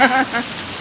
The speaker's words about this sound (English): another summer storm. That's a storm. We've got hail.